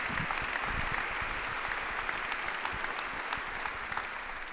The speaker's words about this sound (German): Also ich bitte hier nochmal einen kurzen Applaus. Danke.